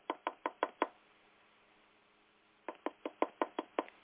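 Woodpecker tapping on a tree: a run of five sharp, hollow knocks, a pause of nearly two seconds, then a second, longer run of about eight evenly spaced taps.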